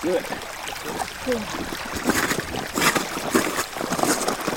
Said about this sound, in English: Is that a rushing river? A waterfall? Yeah, kind of. It's a sound that I recorded standing on a massive piece of ice. It's like 2 miles thick in the thickest part. It's the Greenland ice sheet.